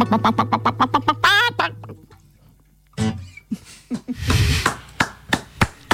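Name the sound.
duck quacking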